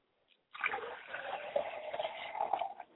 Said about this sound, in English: I pour libations to the north, to the one that is spiritually ratified and potent. Ashe.